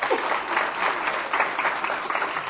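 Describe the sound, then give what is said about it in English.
An audience at a wine panel claps steadily, a dense wash of many hands applauding together, sustained and even throughout with no voices standing out. “So again, another round of applause for Jancis Robinson and Linda Murphy.”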